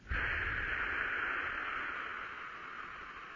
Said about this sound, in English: Breathing out, and breathe out with the mouth, and almost like you were playing a flute, you can almost make a little bit of a noise pursing your lips.